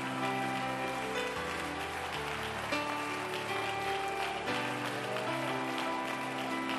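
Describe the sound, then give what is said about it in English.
An audience claps steadily in a dense, continuous wash of many hands, layered over sustained musical chords that shift pitch every few seconds, with no clear talk on top. “Now clap your hands and tell God you're going to release the ghost.”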